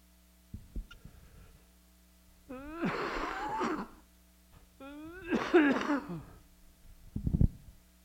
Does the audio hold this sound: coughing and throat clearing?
yes